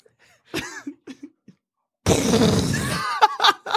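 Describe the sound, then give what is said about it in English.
A voice imitates a bomb exploding in an asteroid: a loud, rough, noisy burst lasting about a second, followed by a few short breathy vocal bursts. Before it come some quiet, scattered mouth sounds. “An explosion rips through the asteroid.”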